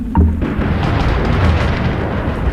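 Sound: crack of thunder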